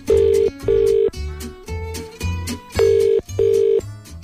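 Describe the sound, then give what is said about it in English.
A telephone line ringing as a radio presenter places a call to a contest entrant, with paired tone bursts at the start and end and a stretch of shifting dial-type tones in between. It is loud, with no talking. “And now I think it's about time that we made a quick phone call.”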